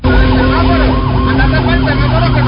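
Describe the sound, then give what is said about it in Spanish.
A police motorcycle patrol siren wails loudly during a vehicle chase, ordering the driver to stop, its pitch sweeping up and down in quick repeated cycles over a steady low rumble of engine and traffic noise. “Miren en todo lo que estamos viendo, donde ve la primer patrulla motorizado de policía, por lo menos, diciéndole la orden al señor conductor que se detenga.”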